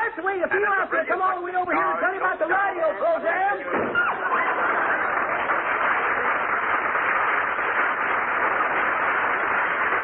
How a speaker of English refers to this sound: McGee slammed the door so hard he threw the radio off again.